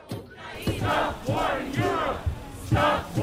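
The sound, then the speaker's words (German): Hundreds of thousands of people chant in unison at a street demonstration for peace and solidarity with Ukraine around the Brandenburg Gate in Berlin, loud rhythmic shouted phrases repeating in steady bursts with a roar of many voices between them. “Am letzten Wochenende waren auch in Berlin hunderttausende Menschen auf der Straße und rund um das Brandenburger Tor versammelt.”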